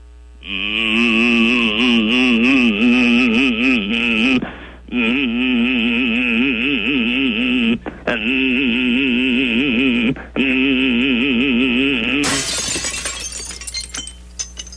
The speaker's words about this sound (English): Yes, I have a wine glass in front of me that I intend to shatter with my voice right here this morning live on radio.